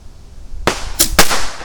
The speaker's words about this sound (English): Buy your kids some bottle rockets today. Woohoo! It's true that I am a fireworks advocate. What's funner than fireworks? Not a lot of stuff. At least not a lot of stuff that kids can do. So we're going to do two here. One, two, let's rock.